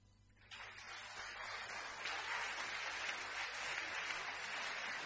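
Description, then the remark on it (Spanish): An audience breaks into steady applause after a brief quiet start, the clapping swelling quickly and holding at a full, dense level throughout, with no one speaking over it; the applause opens a lullaby song. “Bueno, y con estos aplausos, en realidad, empezamos una canción de cuna.”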